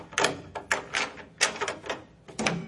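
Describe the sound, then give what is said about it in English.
The door of a ground-floor flat is opened with a series of rattling clunks and scrapes, several short bursts of handle and latch noise in quick succession with no voices. “It's this door here.”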